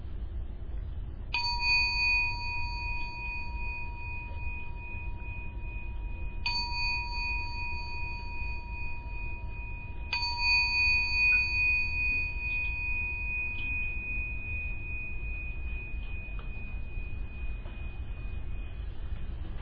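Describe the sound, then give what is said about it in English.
A meditation gong is struck three times to end a meditation, several seconds apart, each ring a clear, sustained metallic tone that hums on and fades slowly, with no voices over a quiet low background rumble. “So I'm going to end the meditation by ringing the gong 3 times.”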